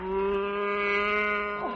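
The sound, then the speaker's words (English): A single long, steady cow moo, loud, holding one low droning pitch for nearly two seconds before dipping slightly at the end, with no talking. “Oh, Henry Williams, what are you doing with that cow?”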